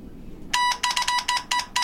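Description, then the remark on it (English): A telephone rings electronically: a loud, bright, buzzy tone pulsing in quick repeated bursts after a brief quiet moment, with no voices. “I have to take a call here.”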